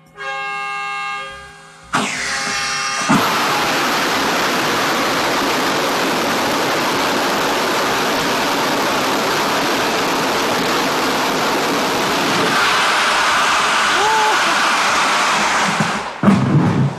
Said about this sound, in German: Ich stehe hier im Nebel, denn ich darf heute bei einem Raketentriebwerkstest dabei sein.